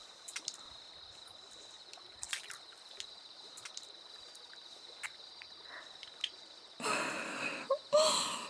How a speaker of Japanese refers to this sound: 主人様のお背中一面、泡でいっぱいになってますよ。 洗っている私の方が心地いいくらいです。